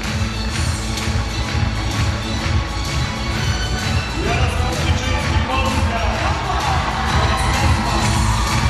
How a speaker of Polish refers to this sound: Wielkie brawa na warszawskim Torwarze dla Jarosława Skrzyczyńskiego, który na komboju w sobotnie popołudnie wygrał finałowy konkurs średniej rundy.